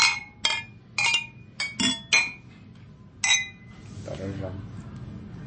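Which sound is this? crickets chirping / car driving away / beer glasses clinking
beer glasses clinking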